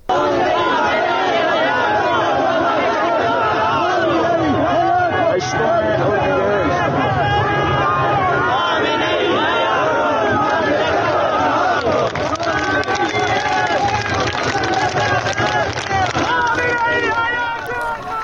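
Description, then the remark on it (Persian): A large crowd of protesters in Zahedan chants slogans such as "We don't want a child-killing government," "Khamenei is a murderer" and "Freedom," and calls for a referendum. The voices form a dense, loud wall that carries on steadily, with rhythmic surges in the shouting. “این صدای مردم معترض از در زاهدان، شعارهایی مثل حکومت بچه کش نمیخوایم، خامنه ای قاتل، ولایتش باطله، این همه سال جنایت، مرگ بر این ولایت، و شعارهای آزادی آزادی سر دادن، مدام فریاد رفراندوم سر دادن،”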